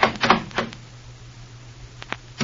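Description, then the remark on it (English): Knocking on a door: a quick burst of sharp raps, a pause of over a second, then a few more knocks, all over a faint, steady low hum. “Suddenly there's a knock on Larry's door and he jumps as though he had been shot.”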